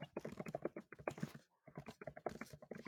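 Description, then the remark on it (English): Rapid clicking of keys on a computer keyboard in two busy bursts separated by a short pause, with no one talking. “I hear you typing.”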